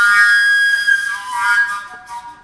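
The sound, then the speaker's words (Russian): A boy's sustained, fairly loud whistling tone that holds steady for a couple of seconds, wavering slightly and fading a bit toward the end, with no talking. “А мальчик с присвистом.”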